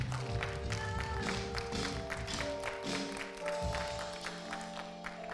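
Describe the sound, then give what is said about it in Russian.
A church audience applauds for Jesus after a prayer, a dense, steady patter of many hands clapping for several seconds, with sustained musical tones humming underneath. “Давайте дадим аплодисменты Иисусу.”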